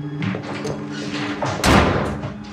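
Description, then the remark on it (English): A bathroom door slams shut with a loud, booming thud partway through, preceded by shuffling movement and background noise, with a brief rattle trailing after the impact. “storms inside and slams the bathroom door behind her.”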